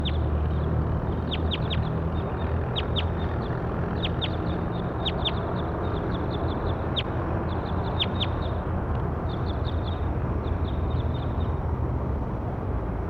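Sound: bird call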